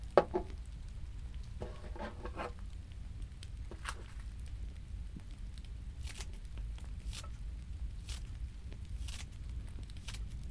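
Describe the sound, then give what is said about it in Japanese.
Scissors snip homegrown green onions onto canned chicken in a series of short, crisp cuts spaced about a second apart, fairly quiet over a low steady background hum. “僕が昔住んでいた家は立派な台所があってね、もし今でもそこにいたら華麗な包丁さばきをご覧いただけただろうけど、今はハサミさばきで我慢してくれ。”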